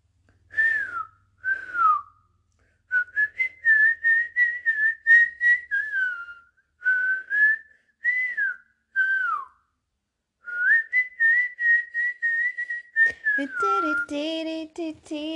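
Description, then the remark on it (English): A person whistles the beat of a song in short repeated phrases with brief pauses, ending with a lower, buzzy hummed or voiced tone; no one talks. “Well, I'm more whistling the beat, but basically, yeah.”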